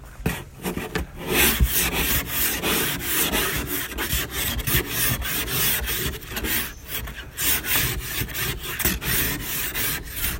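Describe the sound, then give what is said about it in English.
Rapid, rasping strokes of a scraper clearing frost from a car, repeating in a steady back-and-forth rhythm, loud and continuous with no voices. “There's definitely frost on your car.”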